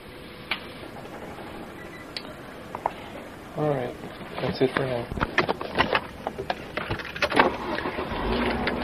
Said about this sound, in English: That sound is the sound of the engine starting.